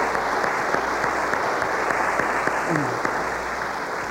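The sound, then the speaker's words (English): An audience applauds steadily to welcome new members into the fellowship, a dense, even wash of many hands clapping that holds at a consistent loudness throughout, with a few sharper individual claps standing out. “Well, let's give them a round of applause and welcome them officially into our fellowship.”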